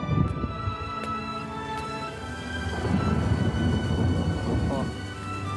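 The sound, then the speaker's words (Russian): A long, low roll of thunder from an approaching storm rumbles steadily for several seconds, swelling slightly in the middle, with a wash of rain-like hiss and a faint steady hum beneath it. “На нас надвигается буря.”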